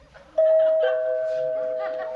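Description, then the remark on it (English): A doorbell chimes again late at night with two clear tones, a higher note followed by a slightly lower one, both ringing out and fading slowly over a faint background murmur. “There's no one again. Janet, wait a second. Janet, don't open the door.”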